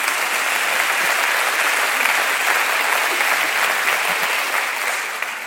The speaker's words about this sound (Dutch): Nee, daar mag je voor klappen.